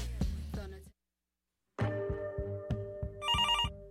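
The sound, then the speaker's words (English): A telephone rings in bright, repeated bursts, stops for about a second, then resumes with a rhythmic pattern of rings and a warbling electronic trill near the end, as Discorder Magazine calls. No one speaks. “Pick up the phone, Lower Mainland.”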